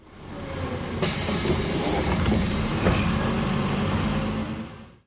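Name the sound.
bus arriving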